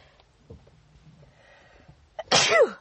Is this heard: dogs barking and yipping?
no